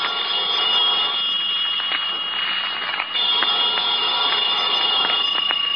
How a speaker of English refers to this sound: About noontime, when the phone rang, I knew it was the clerk downstairs calling because I'd left a call for 12. I let the phone ring.